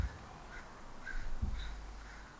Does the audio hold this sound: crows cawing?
yes